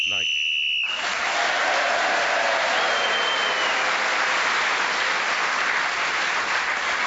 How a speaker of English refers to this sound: Lovely round of applause there confirmed to me that you've enjoyed yourself and you want to know what the final situation was.